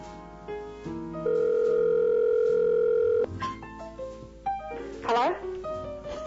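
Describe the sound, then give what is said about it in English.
A loud, steady telephone dial tone holds for about two seconds while a number is being dialed, then cuts off as muffled voices and brief clattering sounds follow. “we're dialing”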